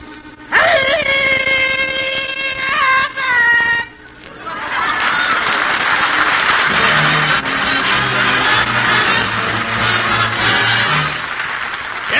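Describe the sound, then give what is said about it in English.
A loud steam whistle blasts for about three seconds, dipping briefly before cutting off, then a big crowd cheers and clamors steadily at the Los Angeles Railroad Station, with a low droning tone underneath. “The Los Angeles Railroad Station, back home again.”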